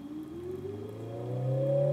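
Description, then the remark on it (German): A synthetic, engine-like drone from an electric motor given an added function as an acoustic sound source besides its rotation, its harmonic tones steadily rising in pitch and growing louder over two seconds, like a car accelerating; no voices. “Und was wir jetzt machen, ist, wir fügen dem Motor zusätzlich zu seiner primären Drehfunktion eine neue Funktion hinzu. Und das wäre eine akustische Geräuschquelle.”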